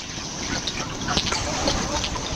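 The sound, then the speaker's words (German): Underwater gas bubbles burble and pop in soft, irregular bursts over a steady, muffled watery rumble, with scattered brief clicks rising through the constant low background, in a small lake in the Mittelland on a warm summer evening. “Da blubbern Gasblätterchen.”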